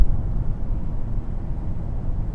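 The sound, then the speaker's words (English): A car cruises steadily on the freeway in sixth gear at 2,000 RPM and 110 km/h, a continuous low engine drone and road rumble filling the cabin at an even, unchanging level with no voices. “shift, and 100 kilometers, 3,000 RPM, fifth gear, and we're on the freeway, and sixth gear, 2,000 RPM, 110.”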